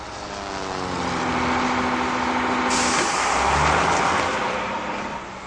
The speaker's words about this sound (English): Boy, that truck makes the loudest sound ever!